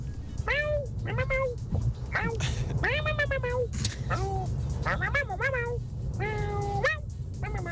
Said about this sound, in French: Très beau chat. Je suppute que ce soit un Maine Coon.